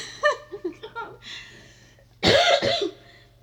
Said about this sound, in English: You're not going to edit out all the coughs. I'm not editing, mate. It's all happening. I apologise, everyone.